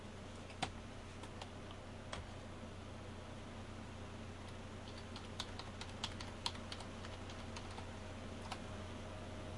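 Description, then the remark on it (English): Irregular clicks of typing on a computer keyboard, fairly quiet, scattered in bursts over a steady background hum, with no one talking. “I got too many keyboards here.”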